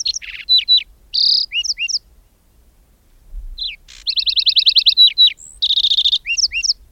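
A lark sparrow sings two long, jumbled bursts of clear whistles, rapid trills and buzzy notes, separated by a brief pause. The bird sounds clear, with no voices.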